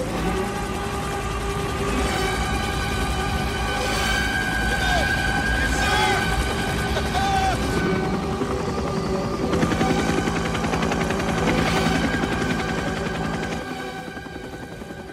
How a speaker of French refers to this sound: L'attaque en hélicoptère avec la chevauchée des Valkyries. C'est Apocalypse Now, un film de Francis Ford Coppola sorti en 1979.